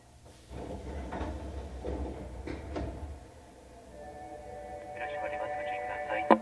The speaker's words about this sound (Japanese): 中崎町、右側の扉が開きます。ご注意ください。